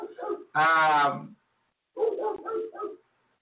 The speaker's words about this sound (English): I feel like my dog is in the backyard just going really crazy. I really wish she would be quiet.